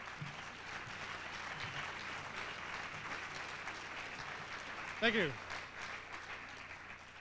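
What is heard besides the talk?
audience applause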